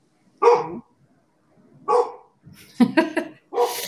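A dog barks, about four or five loud, sharp barks in an irregular sequence, with a quick double bark near the end and short silences between them.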